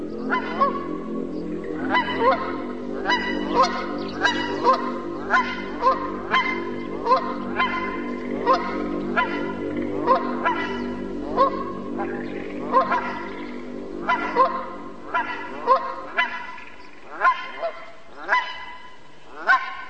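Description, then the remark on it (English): A flock of Canada geese honks repeatedly and loudly, many overlapping calls in an irregular, continuous chorus, with no talking. “Our human ancestors heard these same candy geese back through the mists of time.”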